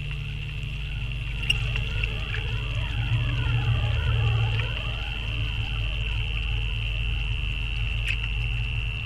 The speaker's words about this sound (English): which takes the changes in precipitation, the changes in sunlight, the changes in wind, and the changes in temperature and turns them into sound